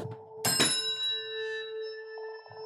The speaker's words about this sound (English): Should we make a Chinese chord with our bells? Is that, okay, here we go.